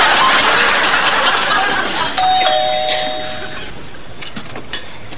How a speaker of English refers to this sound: Same old doorbell. Same old rug.